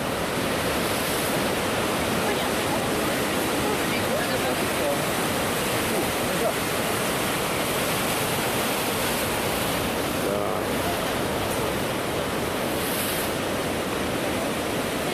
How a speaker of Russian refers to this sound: Вот, друзья, шумит океан. Так шумит, даже не слышно проходящих мимо автомобилей. Красиво шумит. Красиво шумит.